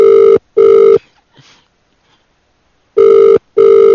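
A telephone rings loudly in a double-burst pattern, two quick trills, a short pause, then two more, with a faint rustle in the gap and no talking.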